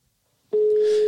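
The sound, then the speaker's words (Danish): A steady electronic telephone ringback tone during an outgoing call starts abruptly about halfway through and holds at constant pitch, loud, with faint background noise and no speech. “Jeg ringer lige.”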